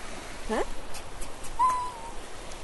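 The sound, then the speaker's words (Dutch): A woman gives short, hooting calls to shoo away seagulls: a quick wavering cry, then a longer, steadier one, fairly quiet against a steady outdoor hiss. “Ik was de vogels aan het chercher. Aan het gewoon aan het weggaan. De meeuwen, hè?”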